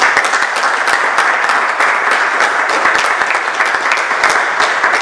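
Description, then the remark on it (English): Sustained applause from a sizable audience for the chair and supporters, a dense, steady wash of many hands clapping at once, loud, with no voices standing out. “So I'd like to give the chair and all of those guys who supported me a round of applause.”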